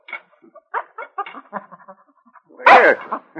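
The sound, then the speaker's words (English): A small mongrel dog named Snapper, sitting beside a man's chair at breakfast, whimpers in a string of short, high, pleading whines, then lets out one louder, sharper bark near the end, with no talking. “A small mongrel dog sat beside his chair, looking at him expectantly.”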